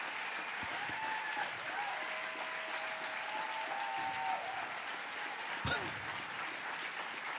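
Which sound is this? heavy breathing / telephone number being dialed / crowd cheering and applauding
crowd cheering and applauding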